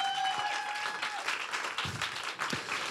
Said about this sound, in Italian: Applauso.